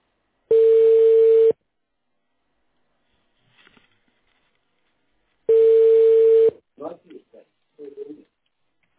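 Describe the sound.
A telephone ringback tone, heard while a callback is being connected to a customer, sounds twice, each a steady one-second hum separated by a few seconds of silence, followed by brief faint snatches of a voice.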